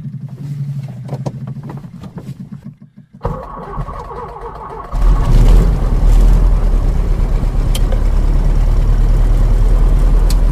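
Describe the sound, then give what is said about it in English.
A 95-horsepower aeroplane engine fitted with a large silencer cranks over with a rhythmic whirring for a few seconds, then catches and roars into a loud, steady idle. “Let's start the engine.”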